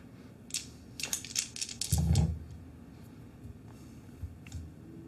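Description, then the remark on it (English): Dice rattle and tumble across a hard surface for a die roll of charisma and domination against wits and resolve: a quick run of sharp, bright clicks for about two seconds, a low rumbling clatter as they settle, then a couple of faint ticks. No voices. “It is a die roll.”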